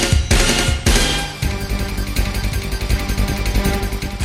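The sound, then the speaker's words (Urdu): Fourth of July fireworks exploding at an Independence Day celebration in the United States: two loud booming bursts open, followed by a dense, rapid string of crackling pops that continues steadily, loud, with no voices. “4th of July کھلے آسمان کے نیچے ایک جشن ہے، پریڈ، بینڈ اور ہاں آتش بازی.”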